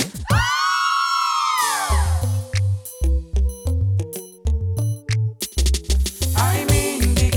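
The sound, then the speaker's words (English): A loud burst of high-pitched girls' screaming rises and fades over about a second and a half, then gives way to a thumping dance beat with deep bass and choppy synth notes. “All of the girls them. I wanna hear you scream.”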